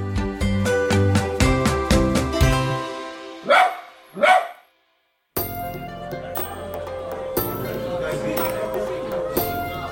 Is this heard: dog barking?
yes